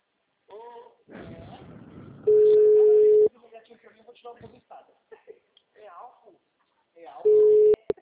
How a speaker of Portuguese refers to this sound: Tanto que eu tô ligando aqui pra esse povo, alguém vai ter que me atender.